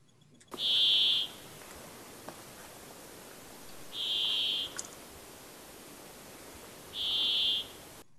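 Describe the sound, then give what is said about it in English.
A brambling, a passerine bird of the finch family (Fringilla), gives three drawn-out, wheezy buzzing calls, each lasting under a second and spaced a few seconds apart, clear over a soft hiss of background noise. “The Brambling is another passerine bird.”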